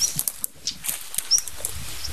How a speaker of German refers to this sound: Ja, das war nicht tick, tick mit diesem Klacken hinten dran. Das ist natürlich Schwarzkehlchen. Aber dahinter sind Nachtigallen. Ich schwöre.